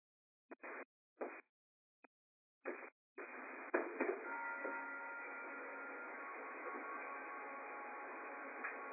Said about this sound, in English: And this is that point where if you have demuted your line, we can hear you. We heard the bell chime.